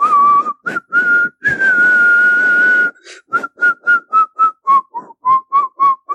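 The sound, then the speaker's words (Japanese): Someone whistles a lively anime theme tune from Gatchaman, starting with a few long sustained notes and then a quick run of short, evenly spaced notes, loud and clear with no talking. “って言って、 はい、 ガッチャマンの曲を口笛吹きながら現れるんですよ。”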